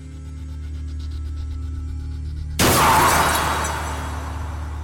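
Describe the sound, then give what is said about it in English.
A low, steady rumble gives way to a sudden, loud crash of a car hitting a tree with glass shattering, the burst of debris ringing out and slowly fading over the next couple of seconds. “A car brushes by you and crashes into a tree.”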